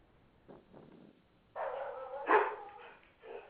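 A dog belonging to someone on a conference call barks a few times, with a sustained bark followed by a sharper, louder one and a shorter bark at the end, after some faint background noise.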